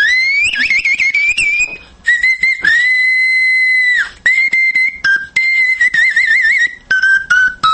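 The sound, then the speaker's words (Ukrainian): A tiny pocket whistle chirps and trills like birdsong, bright high warbling notes in short bursts, a long held tone in the middle, then rapid fluttering phrases, loud and with no talking. “Тобто я зараз дуже багато різновидів зробив, навіть такі зовсім маленькі, майже кишенькові, але тут на ньому можна дійсно і пташками співати.”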